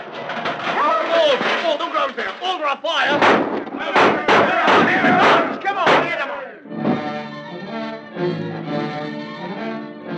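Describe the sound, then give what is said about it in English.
A pot of beans gets knocked over by a Barbary ape hunting for food, with a loud clatter and crash of metal banging and tumbling for several seconds, then gives way to a sustained, ringing musical chord. “Suddenly, in an overzealous effort to reach a pot of beans, the ape knocked over the pot.”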